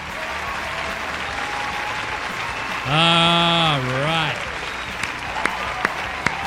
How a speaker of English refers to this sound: Clap them out. Come on, let's clap them out. Oh, there we go.